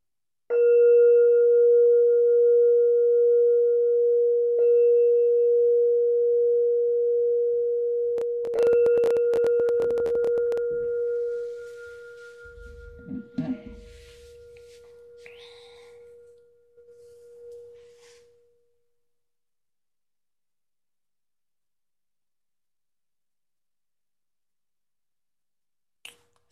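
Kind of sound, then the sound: signal or alarm, meditation bell ringing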